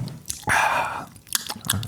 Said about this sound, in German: Ich nippe mal kurz an meinem Traubensaft. Ja. Kannst du das bitte deutlich machen, sodass jeder das hört?